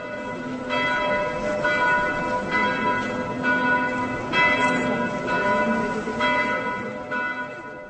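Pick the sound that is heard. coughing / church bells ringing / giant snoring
church bells ringing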